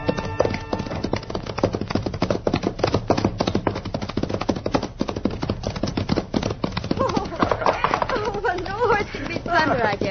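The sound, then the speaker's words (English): Hooves of a sorrel horse clip-clop in a steady, brisk rhythm throughout, fairly loud, with voices briefly speaking over the hoofbeats near the end. “Oh, yes, it's my favorite horse.”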